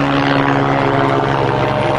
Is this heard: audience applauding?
no